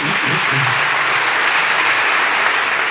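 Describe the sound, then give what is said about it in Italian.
Sustained applause from part of a parliament chamber, a dense roar of many hands clapping at once, loud and steady throughout with a faint murmur beneath. “E su quello che è un po' il cardine di questa Costituzione tuttora in vigore, quello dei diritti sociali, c'è un applauso di una parte dell'Aula, almeno per il fragore che si è sentito da qui, ma non si è vista l'immagine.”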